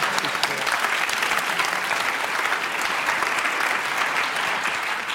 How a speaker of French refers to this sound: Mais non, tout le monde l'a applaudi.